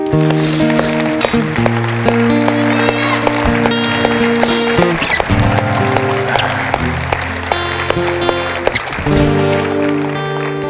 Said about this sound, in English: And each and every one of us would just give God a ridiculous hand clap of praise and tell him thank you.